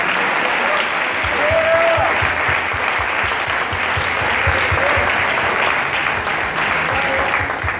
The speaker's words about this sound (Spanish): Aplauda si usted cree en el Señor.